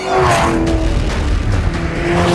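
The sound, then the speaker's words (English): A car engine roars loud as it speeds along in a chase, a continuous high-revving drone with a steady whine and rushing road noise, no voices. “It's okay, well, I kind of hear it's going fast because the engine clearly tells me it is.”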